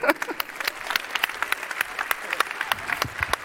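Audience applause fills the whole stretch, a dense, steady patter of many hands clapping at moderate volume with no voices standing out.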